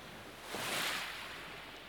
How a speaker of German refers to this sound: Warm, ganz sanft umspülen die leichten Wellen deine Füße.